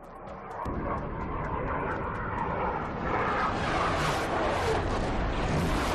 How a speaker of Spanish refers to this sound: Las aeronaves del Ejército del Aire llevan todo el día sobrevolando la bahía de Gijón. Es el ensayo para el Festival Aéreo que se celebra el domingo y van 18 años.